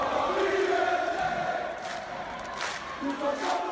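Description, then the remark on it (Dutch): A loud crowd of Paris Saint-Germain football ultras roars and chants continuously during a home match, with rising sustained chant tones and bursts of shouting over a dense wash of voices. “Paris Saint-Germain heeft een fanatieke aanhang die veel kabaal maakt tijdens thuiswedstrijden.”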